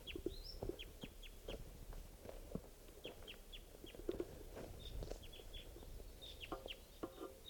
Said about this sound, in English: The wild bird, type 2, calling from the trees here.